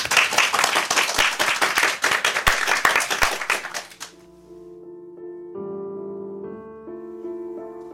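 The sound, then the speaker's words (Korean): Audience applause fills the first four seconds, a dense crackle of many hands with a few sharper claps, then stops and gives way to soft, sustained piano chords introducing a mezzo-soprano performance of Roger Quilter's setting of Shakespeare's Come Away Death. “박수로 청해 주세요.”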